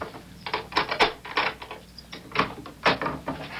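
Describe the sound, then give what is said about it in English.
An apartment door is unlocked and opened: a run of metallic clicks and ratcheting rattles from the lock mechanism, followed by the scrape and knock of the door swinging, with no one speaking. “Here, hold the groceries while I open the door.”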